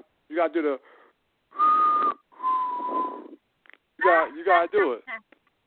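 person whistling

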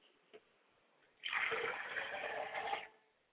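water poured

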